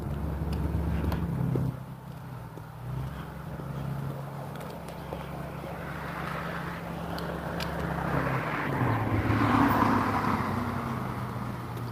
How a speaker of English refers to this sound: Wow, mail truck. They are really stepping it up here. Trying to get everybody's Christmas presents delivered before the big day.